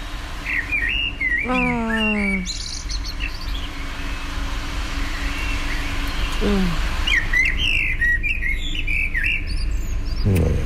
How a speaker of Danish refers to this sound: Og så 2 meter fra mig, der er der en solsort, der sidder og er lige i gang med at fløjte en bedt sang. Og jeg synes, det er så hyggeligt, at den sidder så tæt på. Så jeg tænker, det optager jeg lige, fordi det er simpelthen den dejligste lyd.